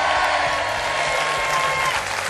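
Sustained applause from a crowd, given as a tribute to the late actress María Asquerino and others from the world of culture, a dense, steady wash of many hands clapping at once, loud and even throughout with no voices standing out.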